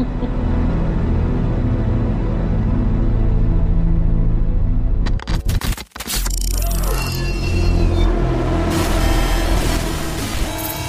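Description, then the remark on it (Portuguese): A heavy truck from the Family of Heavy Tactical Vehicles rumbles loudly with a deep, steady engine drone, broken midway by a sharp burst of clattering and hissing before the engine picks back up and revs on. “Cara, é um caminhão, e aí eu truco.”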